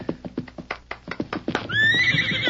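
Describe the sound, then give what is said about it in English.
A quick run of hoofbeats clatters, then a horse lets out a loud, shrill whinny as its rider reins it up sharply on sighting a shack, holding steady and carrying on to the end, with no voices. “The minute he sighted the shack, he reined up sharply.”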